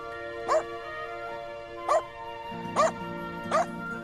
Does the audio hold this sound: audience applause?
no